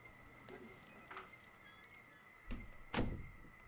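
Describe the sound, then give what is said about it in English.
An office door is pushed shut, with a few soft handling knocks leading into two solid thuds near the end, all over a faint, steady background hum. “Go close your office door.”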